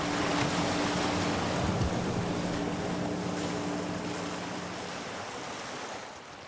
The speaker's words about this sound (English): The weather conditions have got worse. The day is grey and wet, and the waves are coming fast and strong.